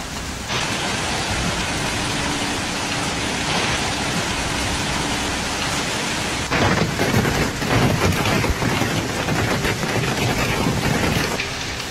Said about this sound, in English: In Italy, bad weather continues to affect large areas of the country, causing extreme weather events. Downpours with gale force winds in Turin frightened residents.